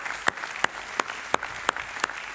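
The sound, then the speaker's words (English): An audience applauds at a morning church service to welcome online viewers and those watching across its campuses: a dense wash of crowd clapping with sharper, louder claps landing at a steady, regular beat on top. No one speaks. “Can we give them a Creek welcome this morning?”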